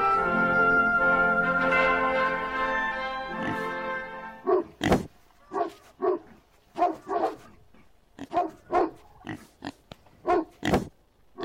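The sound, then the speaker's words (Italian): Pigs squeal and oink in a loud, drawn-out chorus, then a dog barks about a dozen times in quick, uneven bursts, sharp, with no talking. “Radio Contado, l'ascoltano proprio cani e porci.”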